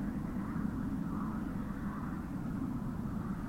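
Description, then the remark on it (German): A steady, low rumbling drone of an airplane passing overhead, continuous, blending with a broad background hum of city noise. “Also ich höre Frösche, ich höre Flugzeug.”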